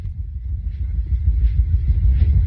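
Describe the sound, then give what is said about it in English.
A vibrating body massager, also used as a vibrator, drones with a steady, low rumbling buzz that wavers slightly in strength, running continuously for a couple of seconds with no voices. “That's a body massager slash vibrator.”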